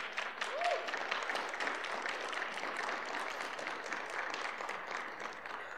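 audience applauding

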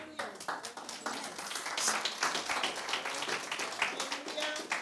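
audience clapping hands

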